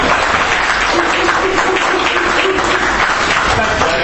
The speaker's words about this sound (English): Guys, round of applause like that.